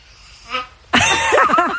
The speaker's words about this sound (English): Oh, this was the baby one at the end. Baby one. Baby snore.